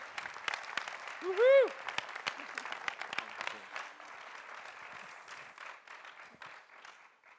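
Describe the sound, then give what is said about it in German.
A crowd applauds steadily with dense clapping throughout, welcoming a pastor, and one loud voice briefly whoops or cheers over it near the start before the applause gradually thins out. “und ihn mit einem riesigen Applaus willkommen zu heißen.”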